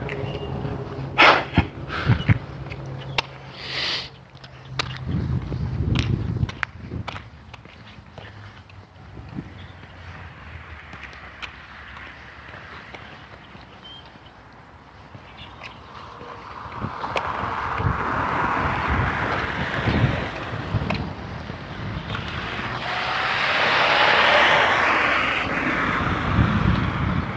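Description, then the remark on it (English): A garbage truck rumbles past, its heavy engine noise swelling into a broad, steady roar that peaks toward the end, with a few sharp clanks early on. No one speaks. “Garbage truck going by.”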